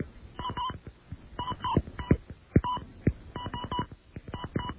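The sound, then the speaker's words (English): A long run of touch-tone dialing beeps on a Sprint phone line, each a short dual-pitched tone, pressed in quick irregular bursts with brief pauses between groups as an authorization code and then a lengthy overseas number are entered. “Enter my authorization code. And then the overseas number.”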